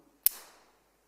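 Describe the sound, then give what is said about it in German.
A single sharp metallic snap of a climbing carabiner clicking shut onto the front of a climber's harness, followed by a brief bright ringing that fades within half a second, heard alone without talk. “Und zwar, wenn ich mich hier an dem Karabiner, wenn ich den vorne in meinen Gurt einhake, dann hat es ein Geräusch, das liebe ich beim Klettern.”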